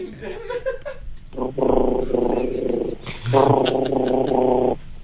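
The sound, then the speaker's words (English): A child makes a buzzing engine noise with vibrating lips while running around with arms out, two sustained revving bursts of about a second and a half each, fairly loud, with a short pause between them. “Yes, some more. That's your engine.”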